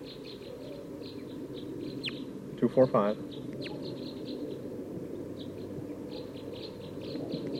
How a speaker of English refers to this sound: I think there's a flock of type 2 birds here in the top of this pine tree.